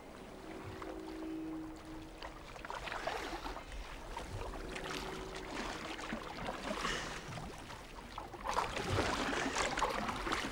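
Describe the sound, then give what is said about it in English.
Oars dip and pull through water in misty, grey fog in a steady rowing rhythm, with splashes, a brief creak of wood, and a louder surge of water near the end. No one speaks. “Theo stops rowing”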